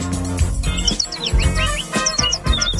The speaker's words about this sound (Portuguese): Vamos acordar que o passarinho já está cantando.